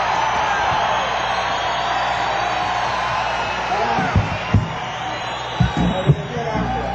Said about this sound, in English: Yeah, we're going to have an encore. What else can I do after crowd reaction like that?